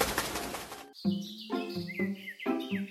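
A burst of rapid, fluttering wing flaps rushes past for about a second as an owl flies away, followed by a series of bright, whistling chirps rising and falling against pulsing tones.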